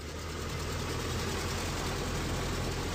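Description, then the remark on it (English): A Ford Model T engine idles steadily, a low, rough, continuous rumble with faint knocking pulses and no voices over it. “The Model T turns 100. Thanks, Henry. Now, let's try and drive this sucker”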